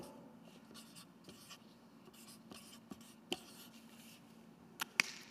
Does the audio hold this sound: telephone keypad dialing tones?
no